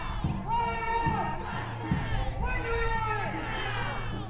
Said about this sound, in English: the crowd marched through the streets of Plymouth, chanting for the release of Peltier